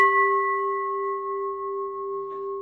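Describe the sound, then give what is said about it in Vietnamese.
A temple bell, tipped and struck at a slant so its sound travels upward, rings out once, its bright tone sustaining steadily with layered overtones, clear, with a faint clink near the end. “Chuông là không có thỉnh ngang vậy, thỉnh như vậy là mình lật cái chuông, mình hất cái chuông lật, thỉnh xéo vậy nè, để mình đưa cái tiếng chuông nó đi lên, phát cái tiếng chuông nó lên.”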